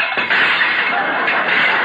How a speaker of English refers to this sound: Oh, for heaven's sake, there go the rest of the dishes.